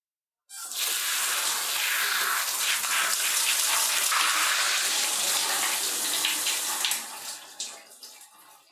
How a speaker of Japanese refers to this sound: じゃあ軽くシャワーで流してからリンスするね。